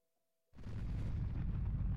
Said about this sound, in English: At about 5 a.m. the following morning, neighbours were roused by a deafening explosion. Gazing out of their windows, they were met with a startling sight